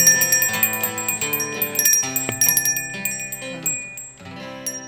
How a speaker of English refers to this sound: Thank you, bell ringers. Yeah. All right. First bell ringers of the Christmas season, even though we're in October.